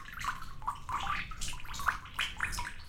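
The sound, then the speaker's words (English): Water pours and trickles steadily from a papermaking mould into a vat, with splashy gurgles and bright drips breaking through the continuous flow, moderately loud, no voices. “Because if you turned it too quickly and there was still a lot of water, the weight of the water would just take everything off”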